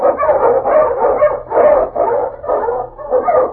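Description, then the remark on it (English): A husky sled dog, King the Wonder Dog, an Eskimo lead dog from the show Challenge of the Yukon, barks loudly in a quick, steady run of about seven yelping barks, with no talking. “On King, on you Husky!”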